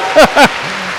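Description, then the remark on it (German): Two loud whooping cheers, each rising then falling in pitch, ring out over a steady hissing wash of an audience clapping throughout, applauding an audience member from Brandenburg. “Hey, einer, gebt ihm mal einen Applaus, da hinten ist ein Brandenburger.”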